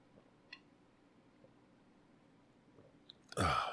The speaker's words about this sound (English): All right, and now our morning devotion. Let me take some water here.